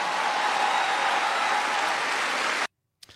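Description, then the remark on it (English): A large crowd at a Kamala Harris rally in Madison, after the Teamsters Joint Council 39 endorsement, cheers and applauds in a dense, steady roar of clapping for nearly three seconds, then cuts off abruptly into silence, followed by a brief faint noise. “Listen to that crowd.”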